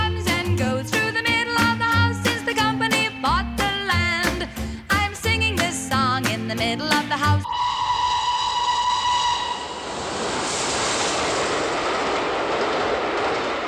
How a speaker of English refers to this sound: Please, there goes a train in the middle of the house